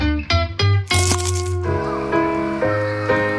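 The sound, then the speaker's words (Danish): A loud crunching bite into a McDonald's McCrispy crispy chicken burger, taken in an attempt at a silent bite, a rapid series of sharp cracks over about a second and a half, followed by sustained tonal sounds with no talking. “Det her var et forsøg på at tage en lydløs bid af den nye knasende kyllingeburger McCrispy. Desværre fejlede det.”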